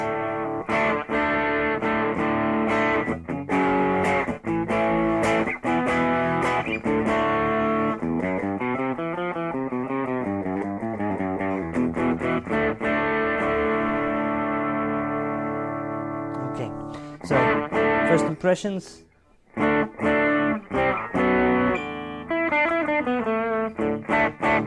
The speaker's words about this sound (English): Yep, that's the crunch of definitely Tube Screamer. So this drives a typical sound.